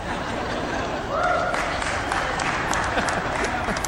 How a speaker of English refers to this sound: Somebody always claps at that.